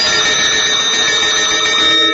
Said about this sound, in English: Hey, you hear these bells, don't you?